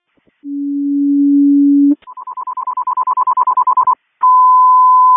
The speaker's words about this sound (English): Seacom, can I get a general alarm for a film crew for Storm Center? I'm sorry, Battalion 3, can you repeat? Can you give me tones for a general alarm for a film crew?